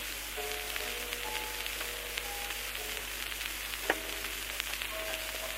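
Steady applause from an audience of more than 1,200 visitors, some standing and some sitting, showing their admiration for a newly presented car; a dense, even crackle of many hands clapping at once, with a faint tonal hum running underneath and one brief sharper pop partway through.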